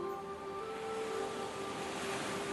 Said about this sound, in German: Am Strand entdeckst du nun große Muscheln. Es sind die Muscheln, die du ans Ohr legen kannst und darin ein Rauschen hörst. Nimm dir nun eine Muschel und halte sie an dein Ohr.